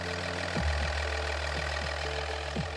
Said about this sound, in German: Ältere Dieselautos erkennt man an einem typischen Motorgeräusch, dem sogenannten Nageln.